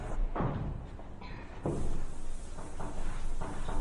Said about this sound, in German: Jetzt wische ich nur eine Tafel und schreibe den Satz hin